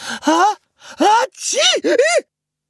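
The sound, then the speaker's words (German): A voice imitates the sneeze of a snow-white female alpaca, Petersilie, waking in the llama stable at Gut Erlenbach: a few breathy, rising gasps build up, then a hissy burst and two quick voiced arcs, fairly loud, with no other sound. “Die schneeweiße Alpakadame erwachte von ihrem eigenen Niesen”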